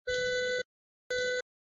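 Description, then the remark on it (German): Two electronic beeps in a row, a longer tone followed by a shorter one after a brief gap, steady and fairly clear with no voices. “Also das Piepsen kommt nicht von mir.”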